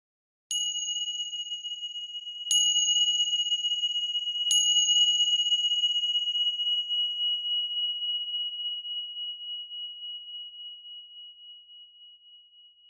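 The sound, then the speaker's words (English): A meditation bell is struck three times, a couple of seconds apart, to mark the beginning of a meditation. Each strike is sharp and bright, its pure ringing tone layering and then slowly fading into a long, shimmering decay. No voices. “The bells will mark the beginning and the end of the meditation.”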